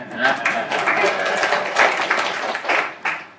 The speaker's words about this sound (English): And I have my logo. This is a good moment to clap.